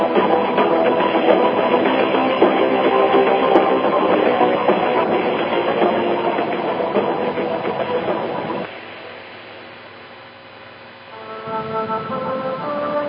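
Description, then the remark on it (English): A vehicle launch sound effect: a loud, dense engine roar rumbles steadily for several seconds, then abruptly drops to a quieter humming whine with steady tones before swelling up again near the end. No one speaks. “Keep your arms inside the vehicle, recline your chair, look out the window as we launch X-Squared Radio.”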